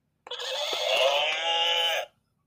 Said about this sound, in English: That was the horse.